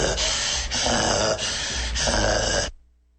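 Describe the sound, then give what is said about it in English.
A person imitates snoring with four loud, raspy snorting breaths in quick succession, each rough and throaty, before cutting off abruptly into near silence. “Her fat ass be snoring and don't even be asleep, just standing.”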